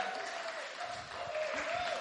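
An audience claps steadily to give a guest a good old-fashioned British welcome, a dense, continuous patter of many hands at even loudness throughout, with a faint tonal hum underneath and no voices standing out.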